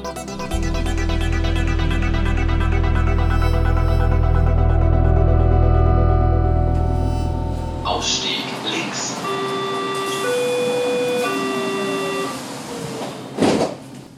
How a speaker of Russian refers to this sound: Вначале я в метро. Там обычный звон и вой. Это берлинский кольцевой маршрут.